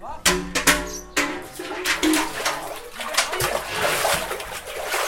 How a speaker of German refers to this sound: Ein Mann im wehenden Beinkleid zieht den vollen Eimer aus seiner Zisterne.